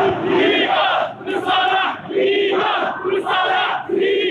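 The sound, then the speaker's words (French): A large protest crowd in front of the Grande Poste in Algiers, Algeria, chants slogans against the system, such as "Barakat, ce système, ça suffit" and "Ben Salah dégage". The chanting is loud and rhythmic, with repeated phrases rising and falling about every second in a steady cadence and many voices merged together. “Barakat, ce système, ça suffit, scandait la foule devant la Grande Poste, point de ralliement de la contestation au centre d'Alger, ou encore Ben Salah dégage.”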